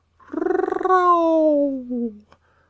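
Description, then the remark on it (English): A single voice imitates a gentle lion roar: a soft rolling growl that stretches into a long, smooth tone sliding downward, then fades out after about two seconds. “But I will aggravate my voice so that I will roar you as gently as any sucking dove.”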